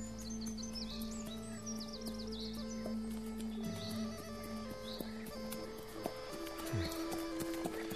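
A horse walks along with steady, clopping hoofbeats at an unhurried pace, while birds chirp and twitter in the background over a constant low hum.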